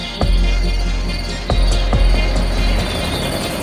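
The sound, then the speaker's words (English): A steady, high-pitched drone of crickets chirping continuously, layered over a low rumbling background with a few soft thumps; no voices are heard. “I hear the crickets”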